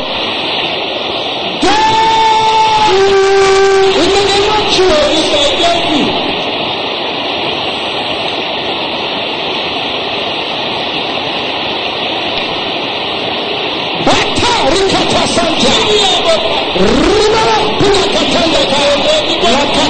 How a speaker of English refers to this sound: Can I hear the brothers shouting with loud and clear? Let me hear everybody shouting it loud.